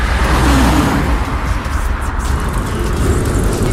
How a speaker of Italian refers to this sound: Wir warten für Bus und wir hören das Auto vorbeifahren.